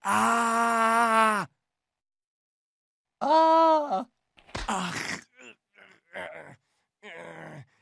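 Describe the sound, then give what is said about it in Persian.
A voice lets out a long, loud, theatrical wail, pauses, then gives a second shorter cry, followed by a string of brief breathy gasps and grunting sounds: an acted scream, delivered as a line by a captive princess in a staged dialogue with a dragon. “الان باید جیغ بکشی.”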